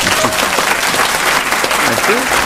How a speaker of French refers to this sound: Je vais vous demander d'applaudir celui qui vous a fait rire grâce à ses films Jet Set, 3-0, Camping ou Disco, Fabien Antoniente.